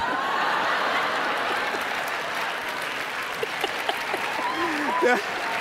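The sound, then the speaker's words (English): Steady audience applause for a guest taking her earrings off fills the whole stretch, a dense wash of clapping with a few voices and light laughter breaking through near the end. “See, they're already applauding at taking the earrings off.”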